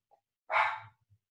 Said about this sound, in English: And I'm sorry. I think my wife just stepped out, which means Finley now is going to be the barking menace. I may have to actually invite him in here so he'll stop barking.